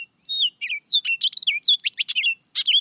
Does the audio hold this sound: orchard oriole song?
yes